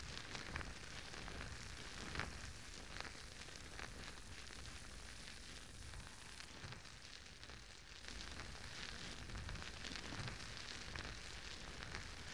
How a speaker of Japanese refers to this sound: パチパチ、目を閉じて泡の音をじっくり聞いてくださいね。